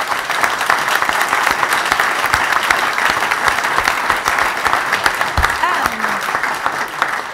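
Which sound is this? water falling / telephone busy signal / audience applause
audience applause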